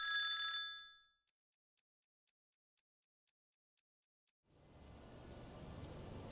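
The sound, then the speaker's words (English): A phone rings with one brief, bright electronic tone, followed by a quick even series of faint clicks and then a steady wash of hiss and rumble. “You get a call.”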